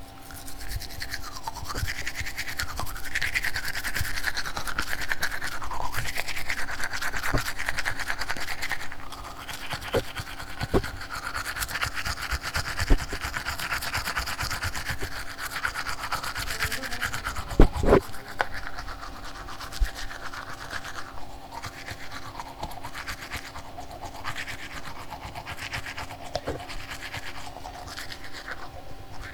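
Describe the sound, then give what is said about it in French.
Someone brushing their teeth: a continuous wet scrubbing with a steady buzzing undertone, louder for the first several seconds and then softer, with occasional clicks and no talking. “Je vais vous faire écouter le bruit quand je me brosse les dents.”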